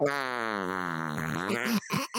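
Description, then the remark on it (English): A drawn-out, buzzy fart noise, seemingly blown with the lips, holds steady and loud for nearly two seconds before breaking into a couple of short sputters. “The one who hates the farting noises is going to fucking hate this episode.”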